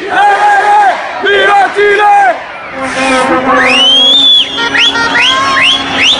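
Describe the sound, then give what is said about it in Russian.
A large crowd of tens of thousands of Chilean football fans loudly chants short rhythmic syllables in unison, "Chi-chi-chi! Le-le-le! Viva Chile!", with drawn-out shouts and rising whoops and whistles breaking through in the last seconds. “Чилийцев приехали десятки тысяч. И они кричат «Чи-чи-чи! Ле-ле-ле! Вива Чили!»”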